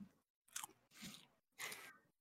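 Close-up crunchy chewing of breaded vegan chicken nuggets, taken as a first taste: three distinct bursts of crisp, crackling bites separated by brief pauses, loud and near the microphone with no talking.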